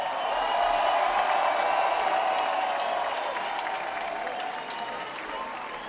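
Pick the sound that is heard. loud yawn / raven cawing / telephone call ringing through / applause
applause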